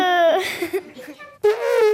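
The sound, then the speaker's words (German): A voice imitates an elephant trumpeting: two loud, brassy, tonal blasts, a short one at the start and a longer, slightly lower one after a brief pause. “Sie trompeten mit ihrem Rüssel, indem sie Luft rausblasen.”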